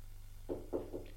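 Three quick, fairly soft knocks on a glazed door, evenly spaced, over a faint steady background hum with no voices.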